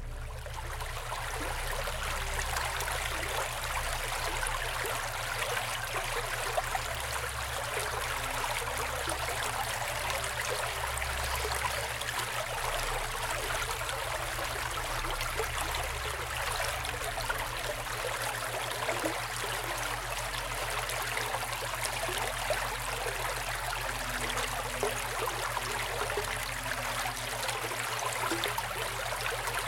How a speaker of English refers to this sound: We're going to play the sounds of the river now. Remember, focus on the water sounds. If you notice that you're thinking about something else, that's okay. Just go back to concentrating on the river. Ready? Here we go.